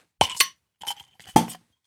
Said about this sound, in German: Du, machen wir mal ein Bier auf, bevor es ein bisschen heaviger wird wieder.